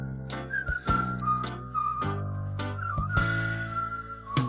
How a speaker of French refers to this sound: Oh, il reconnaît le sifflement